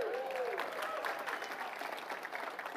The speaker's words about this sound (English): All of those applause were for her.